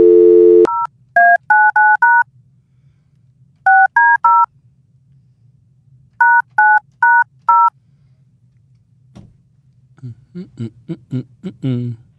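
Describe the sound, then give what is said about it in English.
Electronic keypad tones beep as a call to a mobile phone is dialed, in quick clusters of short, evenly spaced presses with pauses between groups, loud, followed by a brief burst of talking near the end. “Let me just try her on her mobile phone, if you don't mind.”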